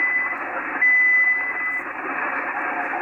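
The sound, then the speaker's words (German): Band-limited amateur radio static hisses steadily throughout, with a faint, unintelligible transmission from a weak station in the Oscar Echo 5 call area buried in the noise and a brief steady tone near the start; no clear words come through. “Leider die Station nicht aufnehmbar, vielleicht geht es in ein paar Minuten noch einmal.”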